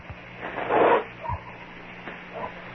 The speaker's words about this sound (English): I heard a dog bark.